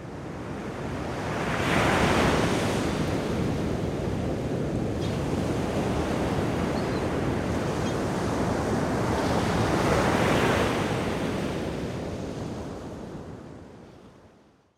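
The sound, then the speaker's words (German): Ocean surf rolls in steadily, with two louder waves cresting and washing through, a broad continuous roar with some wind noise and no voices. “Zu dieser Zeit bedeckten die Ozeane fast die ganze Erde.”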